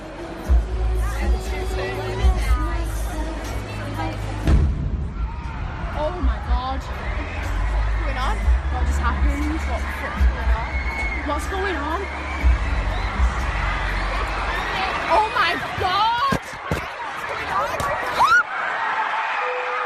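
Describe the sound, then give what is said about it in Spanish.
Deep booming explosions rumble beneath a loud concert crowd in Manchester as the concert is about to end, recorded by someone attending. The crowd then erupts into sustained, panicked shouting and screaming, with a few sharp cracks near the end before the noise cuts off. “Esta es una grabación de alguien que estaba en ese concierto en ese momento y captó el sonido de las detonaciones.”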